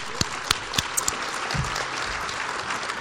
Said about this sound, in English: Give her some applause.